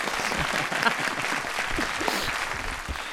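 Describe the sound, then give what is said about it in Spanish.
An audience on a live show applauds steadily to welcome psychologist Rafa Beltrán, a dense, continuous patter of many hands clapping at an even, fairly loud level throughout, with a faint murmur of voices underneath. “Un aplauso para él.”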